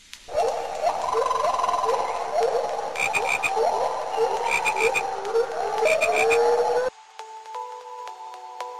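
A loud, dense chorus of frogs croaking in rapid, overlapping bursts for about seven seconds, then cutting off abruptly, leaving a soft sustained tone.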